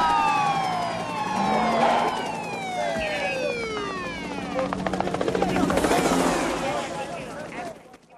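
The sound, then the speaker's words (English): A police helicopter roars overhead as it swoops in while several police squad car sirens wail and sweep downward in pitch as the cars pull in from both directions, layered over a loud, busy rumble that swells toward the end before cutting off. “Police squad cars pull in from both directions and the police helicopter swoops in again.”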